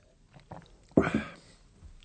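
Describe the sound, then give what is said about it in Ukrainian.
A wet, relished gulp of beer by the character Dr. Türmann: a soft mouth noise first, then one louder swallow that trails off into quiet. No one speaks. “Отже, після того, як Андреас вибачився, доктор Тюрман спочатку смачно ковтнув пива, а потім знову звернувся до Андреаса.”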